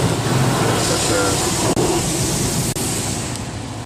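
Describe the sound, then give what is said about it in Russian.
An automatic car wash sprays a car with shampoo for a few seconds, a loud, continuous hiss and rush of water and machinery, with muffled voices faintly underneath. “Ну, что сказать, я не знаю, ну, моет шампунем каким-то, да, там, порошком.”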